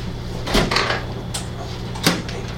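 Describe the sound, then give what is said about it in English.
A door is opened indoors to let someone in: a few short clunks and rattles of the handle and latch, over a steady low background hum with no one talking. “he's trying to get in. Oh yeah, Daniel. Could you go to the door?”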